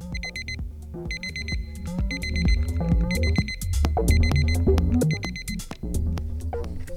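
Bursts of high, piercing electronic beeping repeat in a steady rhythm from a push-button invention called the beep transporter, over a busy, rumbling background of music-like tones.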